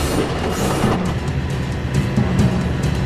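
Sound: train running on rails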